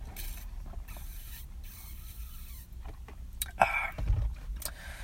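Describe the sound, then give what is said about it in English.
Someone drinks a fountain drink from a QT plastic cup: quiet sips and soft plastic rustling, then a louder slurp and cup clatter near the end, with no talking. “In case you were wondering, yes, I am drinking out of my classy QT plastic cup again.”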